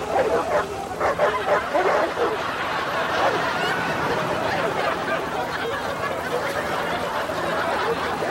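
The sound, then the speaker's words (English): Several dogs bark and yip frantically, their overlapping barks forming a loud, continuous clamor that lasts the whole stretch without pause. “Release the dogs. Dogs? No. No dogs.”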